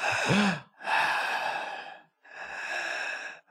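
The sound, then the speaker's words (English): A voice imitates a woman's labored breathing: three loud, heavy, raspy breaths in and out, the first with a slight voiced groan, separated by brief pauses. “Now that you're close, you can hear her breathing like that.”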